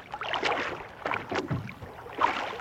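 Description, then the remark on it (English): Peter's rowboat, with Jesus aboard, is rowed a little out from the shore, with several soft, irregularly spaced oar splashes and sloshing over a faint background hiss. No one speaks. “In order to better be seen and heard, Jesus stepped into Peter's boat and asked him to pull out a little from the shore.”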